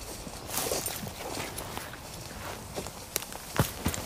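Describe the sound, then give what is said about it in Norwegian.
Footsteps crunch steadily as someone walks through a dense pine and birch forest in Sørumsand, heading toward Kårboligen at Ordregård. Each step is a soft scuffing thud over a hissy background, with a few sharper snaps near the end like twigs breaking underfoot. No one speaks. “Ok, da går jeg gjennom skogen her i Sørumsand, på vei mot Kårboligen på Ordregård.”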